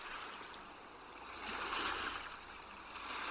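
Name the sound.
ocean surf waves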